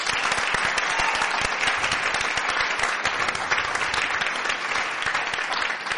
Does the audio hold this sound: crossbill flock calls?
no